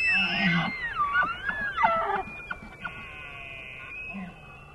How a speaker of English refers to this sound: Fall never really lasts that long color-wise in the Intermountain West, but the elk seem to bugle well into fall and into winter, and so that's always kind of that ghostly disappearance of summer into fall into winter.